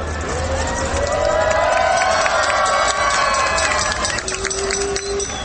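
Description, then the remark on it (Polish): A large group of pilgrims from Ostrów Wielkopolski cheers and chants together outdoors on arriving at Jasna Góra, many overlapping voices rising in a loud, sustained roar that carries steadily for several seconds before easing slightly. “Grupa napisała o sobie: grupa zielona, zawsze rozmodlona, od samego rana zawsze rozśpiewana.”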